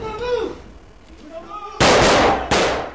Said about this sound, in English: The guards move through a warehouse set up like a laboratory. They shoot holes in paper cutouts of terrorists, terrorists in the act of stealing nuclear material.